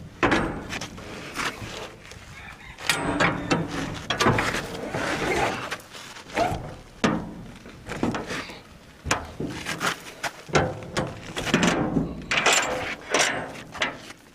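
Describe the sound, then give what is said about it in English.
Someone shutting the door of a Kalamazoo wood cookstove: a run of metallic clanks, scrapes and knocks, uneven in rhythm, with a final thud as it closes. No one speaks. “Now, we're going to shut that door, hopefully.”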